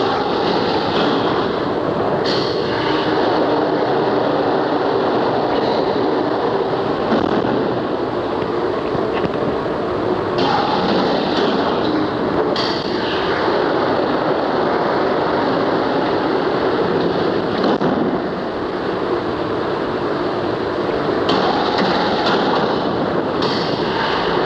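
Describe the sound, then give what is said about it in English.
A historic steam water-pumping engine made by Maudsley and Sons of Lambeth, with a 65-inch diameter cylinder and an 8-foot stroke, runs steadily, a man controlling it, its dense mechanical rumble and hiss with rhythmic clanks and surges, loud and continuous with no talking. “of copper pipes and controls and dials, and we're actually standing right in the middle of this engine.”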